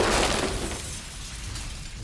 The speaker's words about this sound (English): He pushed another button. "No!" shouted Charlie. "Stop!" shouted Grandpa Joe. The lift crashed through the roof of the house and into the old people's bedroom.